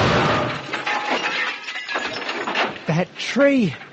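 A loud crash of a car smashing into a tree in a park, with breaking, shattering glass and crunching debris for several seconds, ending with a short wavering squeal.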